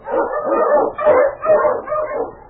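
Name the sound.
husky sled dog barking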